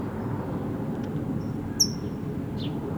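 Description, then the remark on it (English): A bird banded red, yellow, green gives a sharp, high-pitched chip, followed later by a fainter second chip, over a steady low rumbling background noise. No one speaks. “Yes, red, yellow, green is the doe here that's chipping.”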